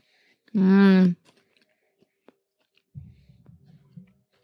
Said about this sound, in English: Try not to chew down in the microphone.